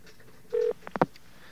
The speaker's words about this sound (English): All right, let's get a dial tone. Okay, let's see if we can actually get through here.